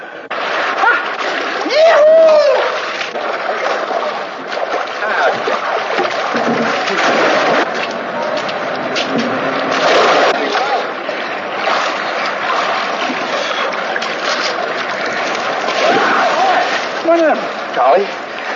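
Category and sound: nature, people splashing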